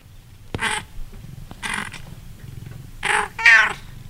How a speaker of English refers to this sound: Little outburst from Donkey, who sits in a bed by my desk the whole day, just kind of meowing for me to pay attention to him.